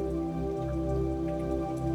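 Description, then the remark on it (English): Light rain falls steadily, a soft continuous patter of droplets over a low, sustained hum, with no voices present. “You see the clouds slowly roll in and begin to feel little droplets of rain hitting your skin.”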